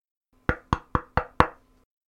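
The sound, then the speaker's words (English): Five quick, sharp knocks on a wooden door in an even rhythm, clear, with no voices; an old woman traveler knocking at Griselda's door one night. “One night, as Griselda bent to her mending, she heard a knock at the door.”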